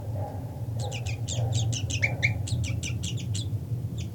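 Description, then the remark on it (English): A rapid series of sharp, high-pitched bird alarm calls, repeated in quick bursts for several seconds over a steady low hum, with no talking. “Okay, alarm calls by 3-3.”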